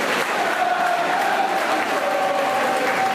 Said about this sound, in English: And here come the Peterborough fans chanting behind the goal.